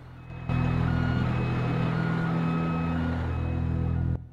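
A large Greyhound bus full of passengers, door closed and destination sign reading Bishop, reverses out, its engine a steady, deep droning roar with a thin, high warning tone sounding faintly above it, starting abruptly and cutting off after a few seconds.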